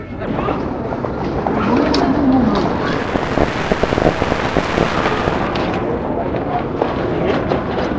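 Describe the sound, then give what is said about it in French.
A car engine starts: a loud, rough rumble fills the whole recording, with a brief rising and falling tone near the start as the engine turns over and revs, over steady noisy hiss. “Et la mise en marche.”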